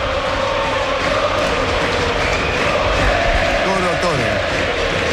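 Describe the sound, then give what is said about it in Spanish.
A large stadium crowd of Católica supporters roars and shouts continuously at the player Sampedri, a dense wall of voices with a few individual yells rising out of the noise near the end. “Escuchen a la gente acá de la Católica que le grita a Sampedri.”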